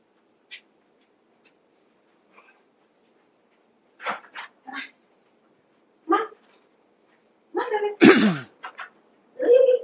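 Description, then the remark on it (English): A dog barks in short, sharp bursts, several scattered yelps coming in irregular clusters, fairly loud against an otherwise quiet background. “I have to get him or he'll keep barking the whole time.”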